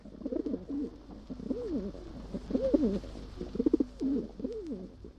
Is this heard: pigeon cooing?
yes